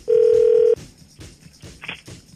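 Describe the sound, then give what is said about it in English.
A phone call being placed to wish someone a happy birthday: one loud, steady electronic ringing tone lasts just over half a second, then drops away to faint, quiet line noise with no voices. “We're going to call him and wish him a birthday today”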